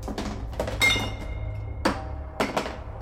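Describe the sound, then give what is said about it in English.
Metal tins knocked off a shelf inside a shelter clatter onto a dirt floor in about six irregular hits: sharp, hollow metallic clunks, one ringing briefly with a bright tone, over a low steady rumble. “I flinch as my arm hits a shelf, and tins clatter to the dirt floor with distant metallic clunks.”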